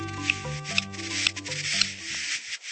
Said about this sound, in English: What are these strange clicking sounds? Is this a secret message in Morse code? They're the calls of a male buff-breasted sandpiper courting a female on their breeding grounds far north of the Arctic Circle.